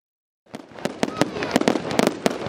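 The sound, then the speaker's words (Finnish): Rapid, irregular bangs of fireworks set off in yards and roadsides at the end of the coronavirus year crackle and pop in quick succession, a dense barrage of sharp explosions after a brief silence, fairly loud with a rumbling background. “Pihoilla ja pientareilla paukkui koronavuoden päätteeksi tavallista kovempaa.”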